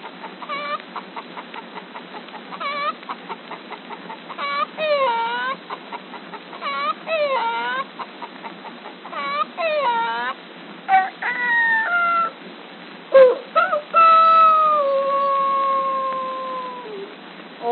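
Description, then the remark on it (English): A human voice imitates a hen's rapid, repeated cackling in choppy bursts, then ends with a long, drawn-out rooster crow. It sounds fairly loud, with no talking. “A hen cackling with a rooster chorus.”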